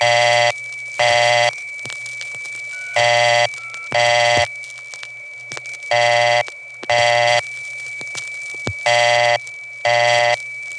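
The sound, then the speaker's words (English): Touch-tone telephone tones on a line in a Bronx neighborhood, from a call made in 1976, sound in short buzzy bursts grouped in pairs, repeating at a steady rhythm, with a faint constant hum and light clicks in between. No one speaks. “On that same day in 1976, another call indicated that yes, there is touch tone in this neighborhood.”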